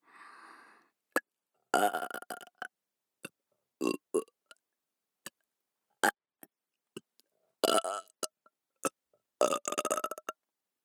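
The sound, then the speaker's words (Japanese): Several loud, drawn-out burps, each a rough, croaky belch lasting about a second, separated by quiet pauses dotted with small mouth clicks; no talking. “ゲップで興奮する変態”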